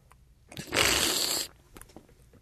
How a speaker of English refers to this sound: Okay, the next thing that you're going to do is slurp it. That is, take it in your mouth, draw some air over it, and that opens up the flavors. Okay, here we go.